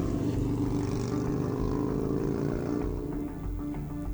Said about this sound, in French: Il enfourche sa moto, calache en bandoulière et nous remorque. Nous prenons la route. Le moteur vrombit.